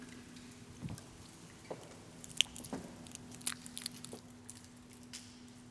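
People quietly chewing communion bread in a church sanctuary, with soft scattered crunches and small clicks spread across a few seconds over a low steady hum, and no one speaking.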